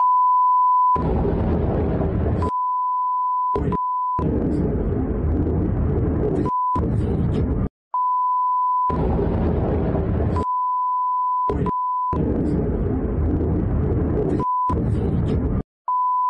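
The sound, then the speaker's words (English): Steady mid-pitched censor bleeps over cursing in a video of an apparent drone attack sound again and again, some long and some brief, alternating with loud bursts of rough, rumbling noise, so that most of the sound is bleeped out. “It's almost not worth even having the audio turned on because the amount of bleeps that are going on in that video.”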